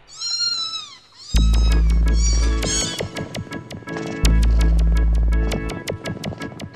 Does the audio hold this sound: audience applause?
no